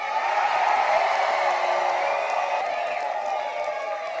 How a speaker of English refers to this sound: America got a little fairer tonight. America got a little bluer tonight. Let's cheer so they can hear us in New Jersey.